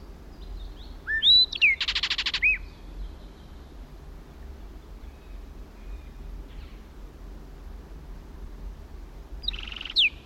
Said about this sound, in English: At last, the flight song. Now in another pine. 60 feet from original position. Kelp gulls in the background. Southern lapwings. Another blackbird joined it.